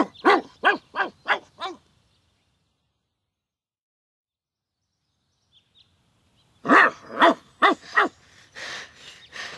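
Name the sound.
dog barking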